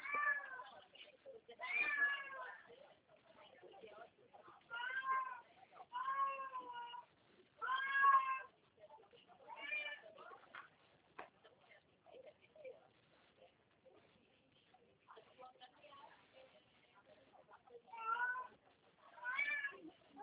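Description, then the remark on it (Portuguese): A kitten meows repeatedly in short, high, wavering cries spaced a couple of seconds apart, clear, with brief quiet gaps between calls. “O gatinho, que dá pena.”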